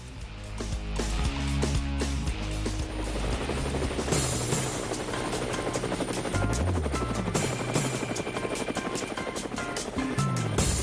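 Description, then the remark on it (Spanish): A helicopter's rotor blades chop loudly and steadily for about ten seconds, dense with engine roar underneath, with no voices over it. “Bueno, amigos, a Cuba, ahí están las zapas del helicóptero.”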